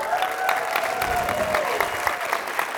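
A crowd claps in steady, dense applause that holds at a fairly even loudness throughout, with a few faint cheers or whistles riding above the clapping.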